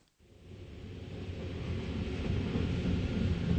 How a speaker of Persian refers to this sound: حالا که بیدار شده قطار به نزدیکی برلن یعنی شهر پوتسدام رسیده.